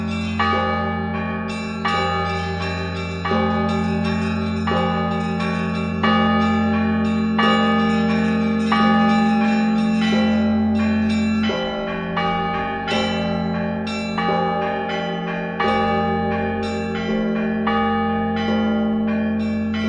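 Church bells ring out in a loud, continuous peal, with frequent overlapping strikes over a deep sustained hum. No voices are heard.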